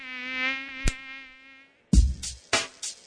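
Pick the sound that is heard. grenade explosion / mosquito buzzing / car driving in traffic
mosquito buzzing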